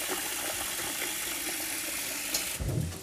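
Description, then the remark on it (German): Rice being stirred in a bowl refilled with fresh rinsing water while it is washed: a steady, even watery hiss throughout, then a fuller sloshing swirl toward the end. No one speaks. “So, und wieder mit Wasser befüllen. Drin rumrühren.”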